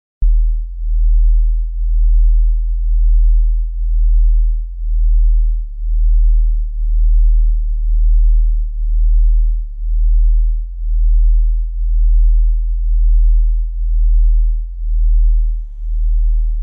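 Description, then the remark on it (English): Deep, low-pitched sine tones hum steadily, swelling and dipping in a slow regular pulse about every second, with a faint higher wavering tone drifting in the background and no talking. “is going to work best with headphones, and if you don't have larger speakers, like if you're listening on a phone, it's probably going to be really hard to hear these lower frequencies.”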